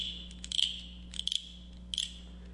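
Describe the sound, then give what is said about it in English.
A pet frog calls at night in three short bursts of rapid, raspy clicking notes at a high pitch, each burst separated by a brief pause, over a low steady hum with no talking. “This is my pet frog.”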